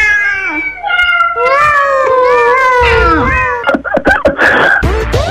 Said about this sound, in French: Qu'est-ce que c'est, là? C'est des chats, voyons. Ah, oui. Bon, ben c'est beau, les chats